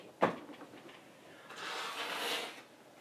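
A sharp knock as a large drawer, the second one down, is pulled, followed a moment later by a longer sliding, rustling scrape of it opening to get boxes of tissues.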